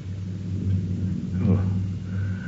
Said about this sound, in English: Oh. Ah, very storms. They are nothing. Karakul sends us storms at this time of the year. But we are quite secure.